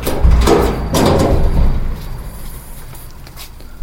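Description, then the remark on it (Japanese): A door is unlocked with a key and opened as someone returns home, with two heavy clunking, rattling bursts in the first second and a half, then fading into quieter shuffling and low background noise. “あ、なんかええ調子で扉を開けようと思ったら、扉を開けるには鍵が必要だった。”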